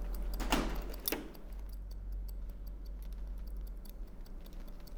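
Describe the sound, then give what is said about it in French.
Quiet metallic snipping from a men's barber's scissors: two sharper cuts near the start, then a steady run of light, rapid clicks over a low background hum. No one speaks. “Ciseaux, coiffeur, kapperskaar.”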